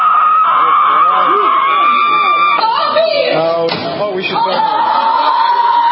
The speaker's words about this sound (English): Screaming at the sky like escaped mental patients because you're so triggered by Trump.